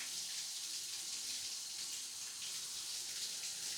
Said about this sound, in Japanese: ほら、そんなに体よじらせちゃったら足で挟んでいるシャワーを落としちゃうよ。お湯から水に変えてみるよ。